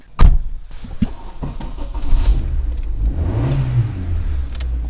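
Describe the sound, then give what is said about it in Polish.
A car engine idles steadily with a low, even hum, opening with a sharp knock and briefly rising in pitch as it revs slightly before settling again. No one speaks. The car has 208,000 km on it and was given to the City Guard (Straż Miejska) in Łęczyca, Poland. “No i dobrze chodzi, silniczek cyka.”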